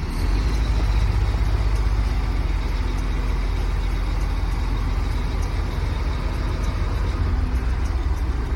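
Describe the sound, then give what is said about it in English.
A continuous, heavy rumble of vehicle engines at a steady, fairly loud level as a car drives onto a ferry at Punta Delgada to cross the Magellan Strait to Isla Grande de Tierra del Fuego, with no voices. “And to get to Isla Grande de Tierra del Fuego, we drive onto a ferry.”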